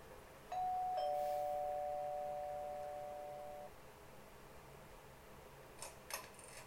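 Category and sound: household object, doorbell ringing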